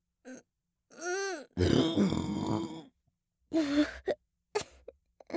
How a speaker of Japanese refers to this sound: はしたなくゲップが出ちゃいましたわ。もう一回。一回ではなく、連続で出てしまいましたわ。